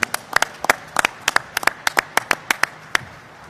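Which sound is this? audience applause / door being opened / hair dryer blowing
audience applause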